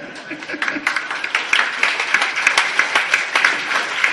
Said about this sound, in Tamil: இப்ப நம்ம என்ன வியாபாரம் ஆகிறதுக்காக நீங்க கைதட்டினதுக்கு நன்றி. அப்போ முக்கியமான ஒரு விஷயம், அதுக்காகத்தான் இந்த கைதட்ட சொன்னேன் உங்களை உற்சாகப்படுத்துவதற்கு.